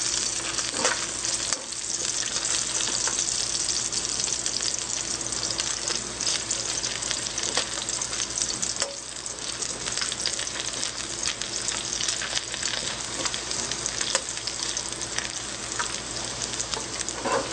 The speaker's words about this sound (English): So this is frying slowly, it's right there.